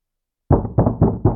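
knocking on a door

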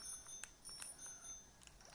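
bicycle bell ringing

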